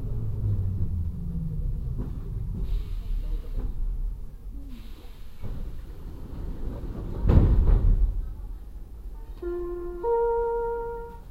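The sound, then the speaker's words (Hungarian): A subway train's steady low rumble fills the scene, a sharp hiss and thud of closing doors cuts through midway, and a bright electronic door chime sounds near the end. “Tessék vigyázni, az ajtók záródnak.”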